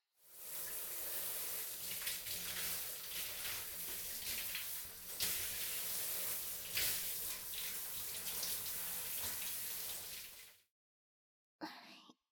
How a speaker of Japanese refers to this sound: シャワーをマットにかけて温めますね。